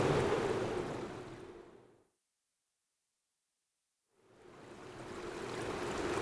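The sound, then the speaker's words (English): Steady rushing of flowing river water, fairly loud, fades away into about two seconds of silence and then swells back up again. No one speaks. “Oh no! A river!”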